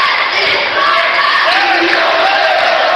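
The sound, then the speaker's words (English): A coach shouts instructions at a basketball game, his raised voice cutting through the loud, continuous roar of a packed gym crowd for the full few seconds. “Coach shouts out instructions.”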